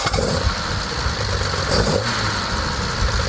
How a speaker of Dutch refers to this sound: En die 3,8 liter 6 inlijn motor. Laat even horen.